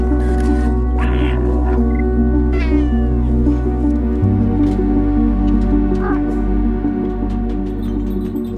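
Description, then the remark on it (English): A cat meows a few times, drawn-out and wavering, over a steady, droning musical background that plays throughout. “Meow, it's time to talk about animals.”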